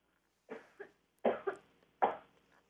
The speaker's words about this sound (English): I got a cough again.